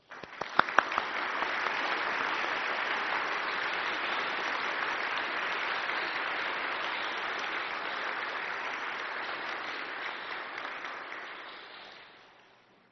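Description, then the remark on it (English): An audience at Mass breaks into steady applause to show support for candidates for the Sacrament of Confirmation, a dense wash of many hands clapping that starts with a few sharp claps, holds evenly for about eleven seconds, then tapers off. “And now I ask you, the community gathered here, to show your support and acceptance of these candidates with your applause.”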